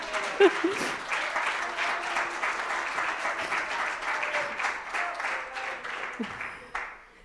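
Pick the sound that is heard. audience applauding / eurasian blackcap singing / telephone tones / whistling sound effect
audience applauding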